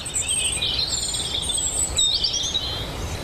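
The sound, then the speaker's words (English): Birds sing steadily in farm hedgerows heavy with fruit, with high, continuous warbling and chirping filling the air over a low outdoor rumble, with no voices. “At a time of year when birds are gradually retreating from view, the hedges of Pat's farm are groaning under the weight of so much fruit that there is still a riot of bird life.”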